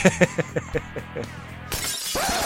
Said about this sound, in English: Hey, is that the broken glass from the theme song? They knew about that. In season one. It's the bar window.